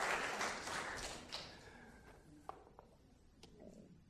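Audience applause, a dense patter of many hands clapping that is fairly loud at first, then thins out within a couple of seconds into a few scattered claps and light taps.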